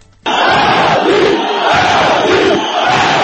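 A large crowd of protesters on the central Rustaveli Avenue in Georgia chants a demand in unison, loud and sustained, voices rising and falling in a rhythmic roar with brief dips between repeated phrases.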